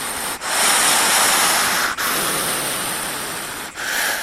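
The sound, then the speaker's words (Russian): An angry hedgehog from the Altai Krai region of Russia hisses in three long, loud, breathy bursts, each broken by a brief pause, with a harsh, airy texture and no voices. “Шипит, когда злится.”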